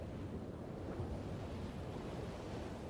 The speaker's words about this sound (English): It's a lot easier to get out for a run when you've got the nice weather, the sound of the beach, the smell of the sand and the sea, you know, with the sun bouncing off it.